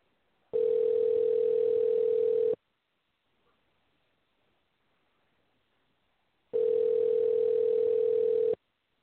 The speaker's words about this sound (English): Okay, what's going on? You're supposed to be picking up this phone. That's what's supposed to be going on. Okay, we'll try back shortly.